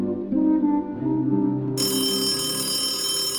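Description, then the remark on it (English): A telephone rings steadily late at night on Shabbat while a family sits doing a puzzle, a sustained bright electronic ringing that grows harsher and fuller partway through, with no voices. “The phone rings, and we stopped doing the puzzle.”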